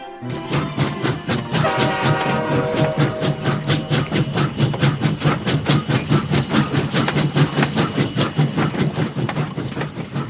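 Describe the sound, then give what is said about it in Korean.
A train on the Gyeongchun Line railway rolls steadily along the tracks, its wheels beating a fast, regular clickety-clack over the rail joints, loud throughout with a low engine rumble underneath. “그 시절 우리가 좋아했던 오늘의 추억은 경춘선입니다.”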